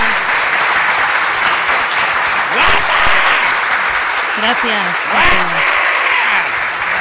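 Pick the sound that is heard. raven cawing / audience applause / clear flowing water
audience applause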